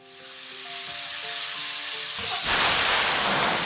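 Hot oil sizzles and spatters in a pan, a crackling hiss that swells sharply and grows louder about two-thirds through, with faint steady tones fading out beneath it early on.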